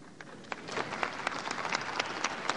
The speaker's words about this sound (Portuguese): A mesa se associa às palmas pelo retorno ao nosso convívio e ao nosso trabalho constitucional da nossa prestigiosa e querida companheira, a constituinte Dirce Quadros.